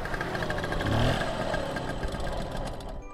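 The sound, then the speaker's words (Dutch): A small scooter engine hums steadily, a buzzy motor drone that rises slightly in pitch about a second in, then settles back to an even running tone with no talking; the scooter is ridden from Aalsmeer to a parental home near Amsterdam. “En als het hoofdgerecht achter de kiezen is, dan pakken ze de scooter om weer te rijden naar haar ouderlijk huis, vlakbij Amsterdam, om de pudding op te halen.”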